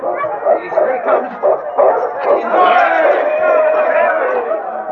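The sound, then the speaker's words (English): A dense crowd shouts and cheers at the finish of a sled dog race, swelling into a sustained roar, while dogs bark and yip excitedly through the noise as the lead dog King, a Malamute, crosses the finish line. “The crowd pressed close as King crossed the finish line.”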